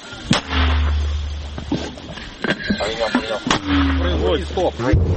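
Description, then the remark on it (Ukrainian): Two loud artillery gun shots fired on command about three seconds apart, each a sharp crack followed by a deep, lingering low rumble, with people talking between and after the shots. “Вогонь. Постріл!”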